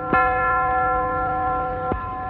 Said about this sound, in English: Later, the village clock tolls for midnight.